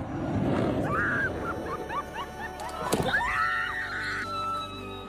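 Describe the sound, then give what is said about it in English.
A crowd on a packed beach in Pensacola shrieks and squeals in high, excited voices over steady chatter, as the sudden loud roar of a Navy Blue Angels fighter jet flying just feet overhead during an air show sweeps past midway through. “This is the shocking moment a Navy Blue Angel fighter jet flies just feet over a packed Pensacola beach during an air show this morning.”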